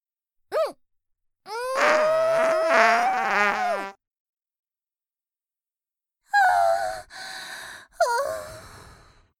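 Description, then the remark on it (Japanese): Buzzy fart sounds from a woman, let out in a sandbox as a playful punishment, with no talk: a short blurt, then a long wavering, rising one, and after a pause three sputtering blasts in quick succession. “そんな悪い子には、おならでお仕置き。”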